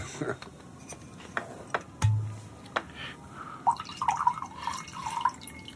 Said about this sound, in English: I think, would you like to pour out some wine for your elderly lover? Sure.